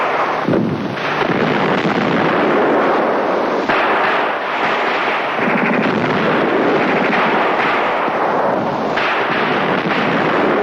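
Dense, continuous crackle of gunfire with sharp repeated bursts and heavy booms over a loud, noisy roar, like old wartime footage of rifle and machine-gun fire, as boats with German deserters and wounded cross a river from the Finnish side and Swedish medics rush out under the bullets. No voices.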